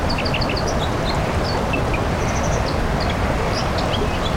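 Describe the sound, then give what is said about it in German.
A white-throated dipper sings a quick run of high, bright chirps and trills, heard over the loud, steady rush of a fast-flowing stream. “Das ist eine Wasseramsel am rauschenden Bach.”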